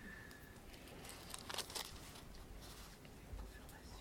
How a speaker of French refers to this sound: Alors, Romains 6. Papier Bible, c'est génial, sauf que c'est compliqué à tourner de manière juste.